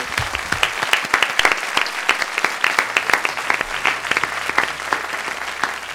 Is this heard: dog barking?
no